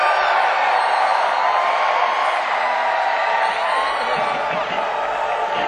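A roaring crowd screams and cheers without letup, a dense wall of overlapping voices with whoops and shouts rising out of it, loud and sustained throughout.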